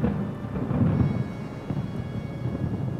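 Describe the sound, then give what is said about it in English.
Deep, rumbling thunder rolls continuously and loudly, with a heavy low-end roar that swells and subsides over a few seconds, no voices present. “The world goes dark before your eyes, except for the nearby bright flashes of lightning accompanied with the roaring sound of thunder.”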